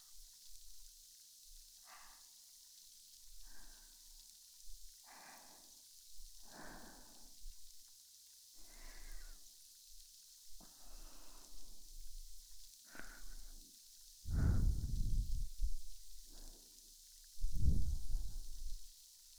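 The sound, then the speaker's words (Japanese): A series of soft, hissy fizzing bursts, about one every second or so, like many tiny bubbles popping and vanishing, with the last two louder and breathier. “めっちゃたくさんの小さな小さな泡がはじけて消えて、はじけて消えて”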